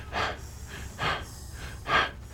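Heavy, rasping breaths of the film character Richard, muffled through the gas mask he is wearing, three slow, evenly spaced breaths with a low rumble underneath and no talking.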